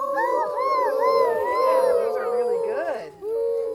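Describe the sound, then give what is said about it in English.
A group of children's voices imitate owl hoots all at once, overlapping in wavering, sliding high-pitched calls that run continuously, break briefly near the end, then resume. “So everybody give me your best owl sounds.”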